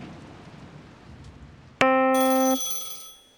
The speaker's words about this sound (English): Always a ringing phone.